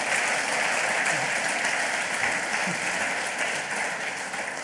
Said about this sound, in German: Also, viel Spaß und eine Runde Applaus für unsere Sprecher, bitte.